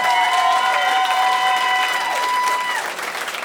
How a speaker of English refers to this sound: Clap if you got kids. Would you clap if you got kids?